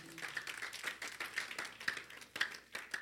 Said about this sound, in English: Clap for the Lord Jesus.